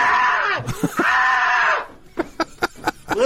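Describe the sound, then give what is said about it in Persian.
A person lets out a loud, high, strained scream of fright that wavers for well over a second, then breaks into a quick series of five or six short, sharp gasping cries. “به حال ظاهرن خیلی ناراحت بود و ترسید و جیغش رو هم شنیدیم.”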